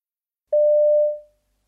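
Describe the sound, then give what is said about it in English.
A single steady telephone tone sounds clearly for just under a second before a teenager's phone call to her mother, then fades away smoothly into silence. No one speaks. “You hear a teenager talking to her mother on the phone.”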